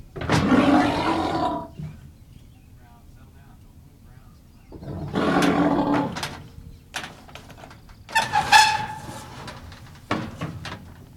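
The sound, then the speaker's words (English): A muskox cow named Brown, closed off in a chute in a milking barn after her calf was carried in, lets out three loud, rough, low bellows of protest separated by pauses, each a drawn-out growling roar, with faint knocks and clatter in the quiet gaps. “It's a move that settles the issue, but has Brown now closed off in a chute and in a mood to offer her protest.”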